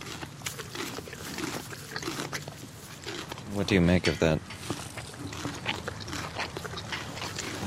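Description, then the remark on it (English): The littlest horse at Northgate Farm, a runty stud, snuffles and snorts right up against the microphone in a loud burst midway through, while a man talks quietly around it over a rustling outdoor background. “The littlest horse at Northgate Farm.”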